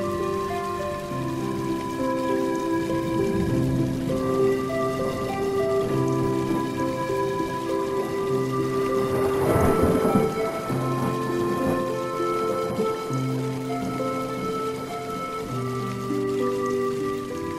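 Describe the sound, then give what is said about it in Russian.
Steady rain of large drops from gathering rain clouds falls throughout, heavy drops pattering on a surface at an even, moderate loudness, with a sustained tonal hum beneath and a brief denser burst near the middle. No one speaks. “И действительно, через короткое время на них начали падать первые крупные капли дождя.”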